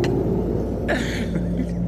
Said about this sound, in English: I'm sorry, you got to speak up just a little bit louder. All the traffic, I'm having a hard time here.